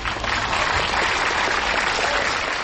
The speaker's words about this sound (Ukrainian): Тиша. А тоді зал зривається оплесками.